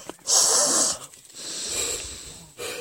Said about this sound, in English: Let's just stop yawning.